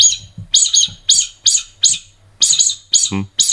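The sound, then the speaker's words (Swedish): A predator call blown with the diaphragm to imitate a mouse squeak: a run of about nine sharp, high-pitched squeaks in a quick, uneven rhythm, fairly loud, with a brief low breathy burst near the end. “den kör du muspip med också? Ja. Hur låter det då?”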